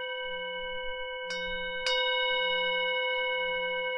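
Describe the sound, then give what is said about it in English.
A bell is struck twice in quick succession, rung a little louder, each strike a sharp metallic hit that blooms into a long, sustained ring with layered overtones humming steadily underneath. “Yeah, can I ring it again?”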